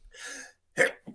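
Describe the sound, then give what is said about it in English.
A single sneeze: a drawn-out breathy intake followed by a sharp, loud burst, with a short softer exhale trailing after. “Wow. Bless you.”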